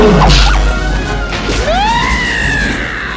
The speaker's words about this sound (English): Suddenly, Rafiki's stick cracks the hyena on the head.